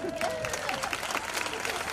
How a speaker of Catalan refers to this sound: Un aplaudiment.